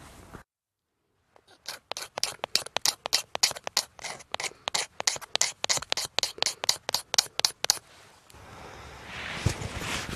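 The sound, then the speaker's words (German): Rhythmic scraping of shavings off a resinous pine kindling stick (fatwood, Kienspan), about twenty quick, bright rasping strokes in a steady beat, followed by a softer rustling hiss at the end. “Wow, ich habe meinen Feuerstahl mit und ein Stück Kienspan und habe davon gerade ein paar Spinne abgemacht und gerade den Funken in diese Kienspanwolle geschlagen.”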